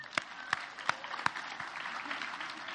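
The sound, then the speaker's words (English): Audience applause for the volunteers of the Great Grocery Giveaway: a few sharp, evenly spaced claps stand out at first, then blend into a steady wash of clapping from a crowd, with no voices. “Applaud them.”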